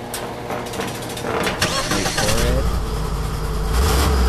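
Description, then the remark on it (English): A big-block Ford car engine in a garage cranks and catches, then settles into a loud, steady low rumble, purring for the rest of the moment. “Block Ford. Listen to that thing purr.”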